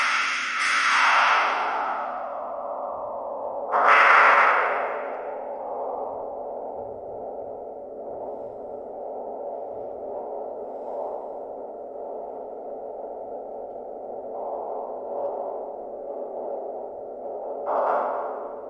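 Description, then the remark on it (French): Sonification of astronomical data from space: synthetic tones hold a steady, droning hum, broken by a few brighter swelling sweeps at the start, around the fourth second and near the end. No voices. “Je pense qu'on a l'habitude de voir des images du ciel. On a peut-être moins l'habitude de l'écouter.”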